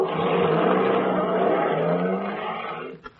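A truck that has just been loaded with a crate: its engine roars loudly and steadily, the low rumble holding for about three seconds before fading out as the vehicle pulls away.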